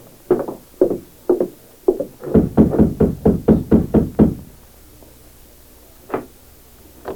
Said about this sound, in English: He watched for a time to make sure Dr. Martin was alone, then advanced and rapped on the door.